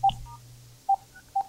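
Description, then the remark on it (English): Three short telephone keypad tones beep in an uneven sequence, dialing star 69 over a low steady hum, with no voices. “So now I have to star 69?”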